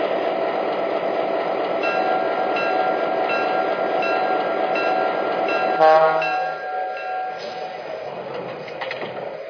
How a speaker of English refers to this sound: Los Angeles on track 1. Train number 124, the Grand Canyon.